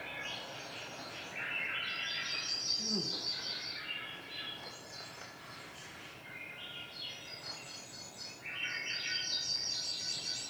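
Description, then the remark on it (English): A Swainson's thrush sings melodic, upward-spiraling flute-like phrases, three of them a few seconds apart, clear over a steady hiss of outdoor background noise. “There's these birds called Swainson's thrushes that have these really intense melodic rising calls.”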